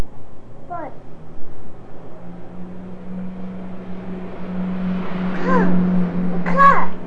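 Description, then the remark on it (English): A car's engine hums low and steady, its rumble growing louder as it approaches, while a child's voice calls out briefly a few times over the noise. “There goes a car.”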